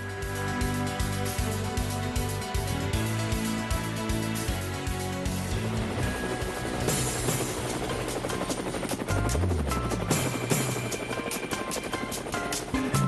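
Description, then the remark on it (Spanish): A helicopter sound effect fills the whole stretch, its steady rotor thump and engine drone loud, mixed with layered musical tones and no talking. “Bueno, amigos de Cuba, después de María Corina Machado, nos vamos con el helicóptero.”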